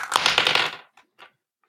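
Dice clatter and rattle in a quick burst of hard clicks for under a second, followed by two softer, separate taps as they settle. Fairly loud, with no talking.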